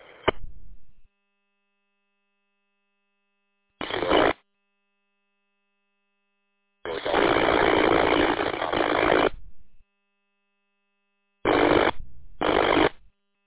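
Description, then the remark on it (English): Bursts of harsh radio static, scatter on a radio transmission, crackle in and out: five noisy hisses of uneven length, the longest about two seconds, separated by silence, with a faint steady whine running underneath. No voices come through. “Well, that was just a bunch of scatter.”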